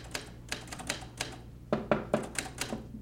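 Mechanical typewriter keys clack in quick, uneven bursts as a woman at home types out a letter, with a few heavier strikes standing out midway, over a low steady hum and no voices.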